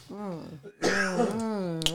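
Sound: coughing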